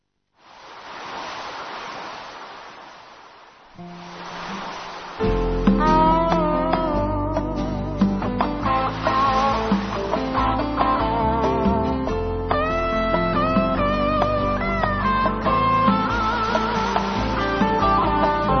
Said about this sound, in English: What we're going to have instead, briefly, is a little song here while we're queuing up.